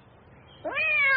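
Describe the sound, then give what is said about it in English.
A single cat meow begins after a short quiet stretch, rising in pitch and then holding a clear, drawn-out tone until the end. It is fairly loud, with no talking. “Look, a red cat.”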